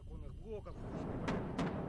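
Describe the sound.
Two booming outgoing artillery shots fired by Donbass separatists go off in quick succession, heavy, over a low rumble, right after a brief murmur of a voice, as a school janitor cleans up glass from shattered windows.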